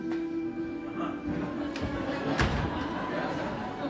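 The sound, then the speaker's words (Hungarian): A door is slammed shut in someone's face with a single sharp, solid bang, set against a steady low hum and faint background murmur. “Hát igen, a képembe csapja az ajtót.”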